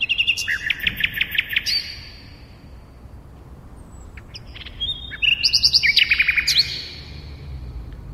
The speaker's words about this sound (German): Dann kann man natürlich das Rotkehlchen hören. Auch eine sehr schöne Stimme und eine eigenartige Stimme, weil sie so eigentlich keinen Anfang, kein Ende hat, keinen richtigen Rhythmus, keine richtige Melodie und trotzdem aber sehr reizvoll ist.